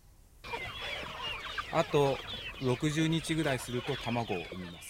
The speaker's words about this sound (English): This chicken will lay an egg in 60 days.